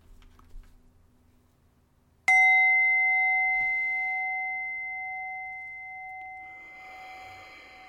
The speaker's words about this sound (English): I'm going to start with three bells and ask you to take a breath and breathe in and then breathe out following the bell.